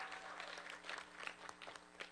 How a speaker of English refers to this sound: But let's hear a huge round of applause for all of the service that they've given us.